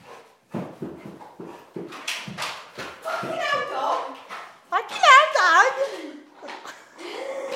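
A dog named Tessie playing excitedly, with sharp scuffling bursts, panting and a run of high, wavering whimpers and yips, mixed with a person's playful vocal noises throughout.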